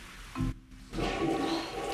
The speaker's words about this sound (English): Polly hovers outside the bathroom door, debating whether to knock. She looks relieved as she hears the chain flush.